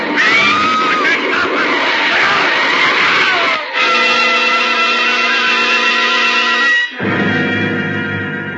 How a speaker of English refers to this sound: Too late for the man in front of your speeding car to jump clear. There's a helpless skidding sensation as the car lurches across the wet pavement. And then a sickening thud.